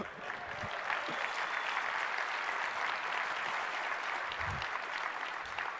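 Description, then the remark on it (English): Steady, sustained applause from an audience at a software presentation after a live demo, a dense wash of many hands clapping at even loudness throughout, with no talking over it. “I'm glad I got some good applause out of it, so.”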